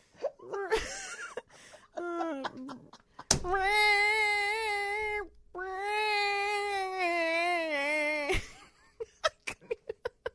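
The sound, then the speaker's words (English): A voice imitates bagpipes with two long, sustained nasal drones, steady and reedy, the second wavering slightly in pitch, after some brief vocal sounds and followed by a quick run of sharp taps. “Imitate the sound of bagpipes.”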